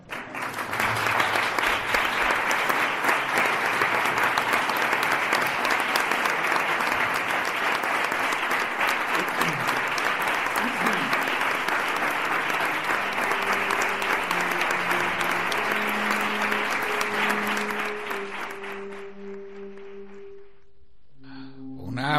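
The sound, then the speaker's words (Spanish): A prolonged ovation from an audience in the conference room of the Salón de la Curia, celebrating an announcement: dense steady clapping for about eighteen seconds before tapering off, followed by faint low tones as it fades. “Prolongada ovación la que escuchamos en el Salón de la Curia, en su sala de conferencias, donde se anunciaba este gozoso acontecimiento.”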